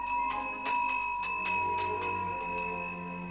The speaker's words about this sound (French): Une deuxième clochette, puis une troisième clochette sont furieusement secouées.